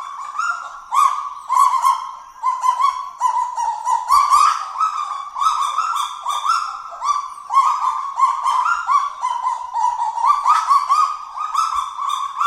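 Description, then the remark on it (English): Several kagu calling together in a dense, continuous chorus of sharp, yelping barks, rapid and overlapping, like a pack of small dogs yapping, loud and steady throughout with no talking. “The kagu's call, you get a bunch of them together, they sound like a pack of barking chihuahuas, basically.”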